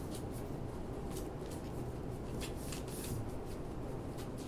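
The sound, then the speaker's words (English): Continuous riffling and flapping of cards being shuffled into piles during a tabletop game, a steady papery rustle with quick crisp bursts repeating throughout, no voices. “So just shuffle it?”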